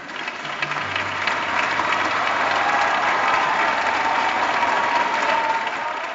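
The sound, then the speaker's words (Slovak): A large, enthusiastic crowd on the Montorso esplanade applauds and cheers continuously, welcoming the Pope as he arrives shortly after five, a dense wash of clapping that stays loud and steady throughout, with a faint low hum underneath. “V deň pápežovho príchodu očakávanie naberalo na intenzite už od rána a keď krátko po 5. vstúpil na prístranstvo Montorso, privítali ho nadšené davy.”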